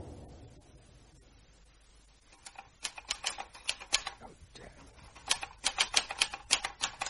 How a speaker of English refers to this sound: What are you typing? Begging letters. Begging people to pay up.